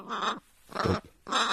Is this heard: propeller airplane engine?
no